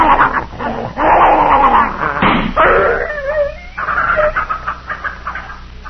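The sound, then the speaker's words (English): A dog named Tiger, in pain from poison, whimpers, wails and snarls as it is held, its cries rising and falling in loud, strained bursts almost without pause, with no one speaking. “he was in such pain he'd have bitten both of us.”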